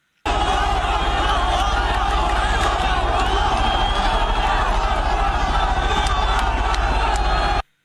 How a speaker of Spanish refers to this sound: Seguro que han visto esas imágenes, han oído a esas multitudes gritando a las chicas hasta el último momento